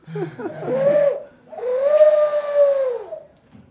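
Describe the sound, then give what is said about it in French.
Two drawn-out, hollow cooing calls from a pigeon, one short and one longer, with a smooth rising then falling pitch, fairly loud with no talking. “Un toucan, une mésange et un pigeon.”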